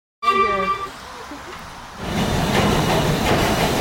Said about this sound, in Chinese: 我今次嚟到湖区，主要系为咗自然景色同埋乡村嘅风光，但系呢度有一个非常工业化嘅旅游景点。我都是好鍾意要推介俾大家，就係、是、搭蒸汽火车。